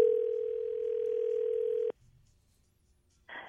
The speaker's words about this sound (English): so let's make a phone call here